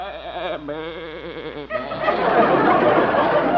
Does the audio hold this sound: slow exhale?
no